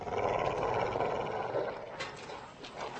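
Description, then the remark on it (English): A muzzled dog growls in a low, rough, continuous rumble for about three seconds, fairly loud, easing slightly toward the end, with no talking. “Glad that dog's got a muzzle.”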